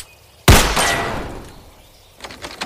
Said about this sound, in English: Yeah, no thanks, pal. I'm just gonna shoot off the locks on the door. Should have done that in the first place.